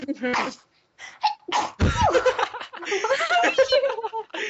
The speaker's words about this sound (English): I love that sneeze.